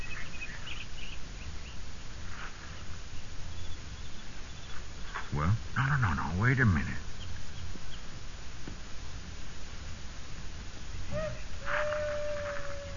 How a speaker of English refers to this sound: Did you hear that owl? Yeah. Remember hearing it a ways back? Yeah, I guess. What's wrong with the owl hooting? Yeah, generally, wild animals only squawk when something bothers them.